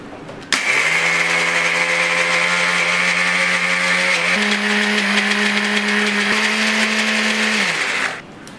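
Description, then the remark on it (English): A blender whirs steadily for about seven and a half seconds, blending with olive oil into a smooth tahini paste, its motor humming loud and even with a slight shift in pitch midway, then cuts off abruptly. No one speaks. “After they cool down, we're going to blend them with some olive oil and get a nice smooth paste.”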